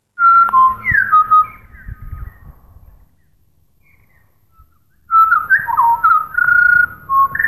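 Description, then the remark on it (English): Grey butcherbird song recorded in Exmouth, Western Australia: loud, clear fluting whistles in quick melodic runs, heard as two separate bursts of phrases with a quiet pause of several seconds between them. “Here's a grey butcher bird recorded in Exmouth, WA by Scott Thompson.”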